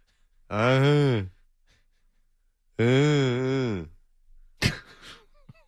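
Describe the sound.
A person imitates snoring with two long, loud, droning voiced breaths separated by a pause, followed by a short, sharp snorting burst at the end.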